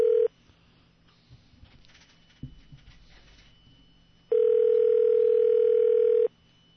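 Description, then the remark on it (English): A phone line ringback tone: a steady electronic buzz cuts off at the start, then after about four seconds of quiet line noise, returns for a loud two-second ring. “Are we ringing? Yes, we're ringing.”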